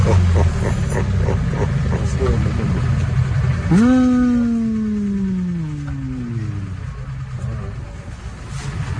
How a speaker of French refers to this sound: Enfin, heureusement, il reste le bruit des portables et des moteurs.